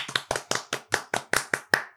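Steady hand clapping, about ten sharp, crisp claps at a brisk even pace over two seconds, like one person applauding, with no voices.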